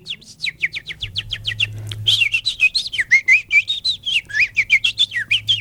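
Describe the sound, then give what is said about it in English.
A person whistles an imitation of a house finch song: a quick run of clear chirps rising into a long, warbling, jumbled phrase, fairly loud, with a low hum underneath. “That was the house finch.”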